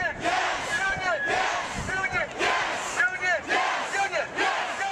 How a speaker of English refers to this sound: The protests started almost immediately. Thousands of people filled the Capitol carrying signs and chanting.